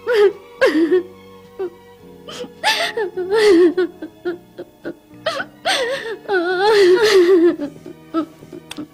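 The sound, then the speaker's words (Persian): A girl cries and sobs in a run of halting, wavering vocal bursts broken by short catches of breath, with no clear words. “خیلی خوب، هر چقدر خواستی گریه کن تا راحت بشی، بعدش هم سعی کن بخوابی، باشه هایدی؟”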